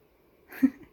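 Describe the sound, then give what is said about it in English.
A short yawn: a quiet pause, then a breathy exhale that swells into a brief low voiced groan and trails off after about half a second. No one speaks. “That was a big yawn.”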